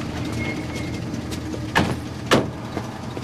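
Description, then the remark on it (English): Two solid car-door thumps land about half a second apart over a steady outdoor hum, with faint bird calls in the background and no one speaking, as two people get out of one car and into another. “Later, Billy and Raymond get out of one car and get into Pam's car.”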